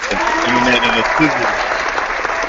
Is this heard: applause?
yes